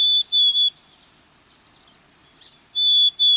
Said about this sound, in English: Black-capped chickadees sing a plaintive, whistled song